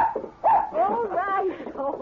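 A dog yips and whines excitedly, a quick string of high, rising and falling cries filling the whole moment with hardly a pause.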